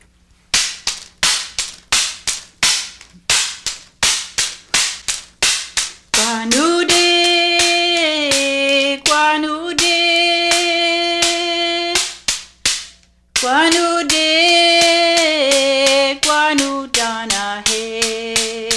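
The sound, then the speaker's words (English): Sharp, dry clacks of layered wood struck against a hand or knee ring out in a steady rhythm, then continue under a sustained sung chant. “Banging these layers of wood against the hand or knee produces this distinctive sound.”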